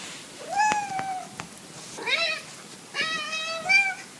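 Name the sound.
cat meowing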